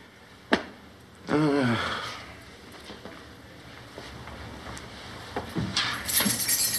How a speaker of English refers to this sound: What's that? Oh, keys to the plane.